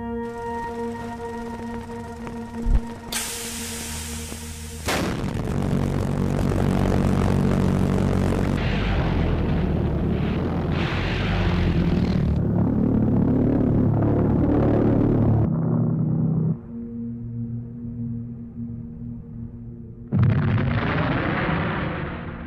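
A V1 buzz bomb's pulse jet engine drones with a harsh, steady buzzing tone, swelling into a loud rushing roar and then settling back to the throbbing hum, with no voices.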